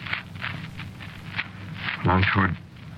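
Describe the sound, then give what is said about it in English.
Toward morning, a colonel's boots step along at a walking pace, his sword and spurs clicking crisply at each stride, ending as a voice speaks briefly over the sound. “Long toward morning, heard footsteps again. Boots, sword, spurs clicking.”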